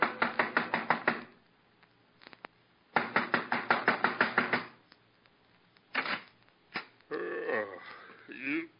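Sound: banging on a door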